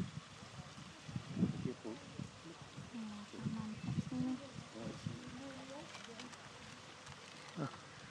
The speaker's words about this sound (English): We're now off the boat and to the right is a waterfall.